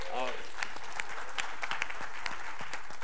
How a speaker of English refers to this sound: Can we give him a round of applause?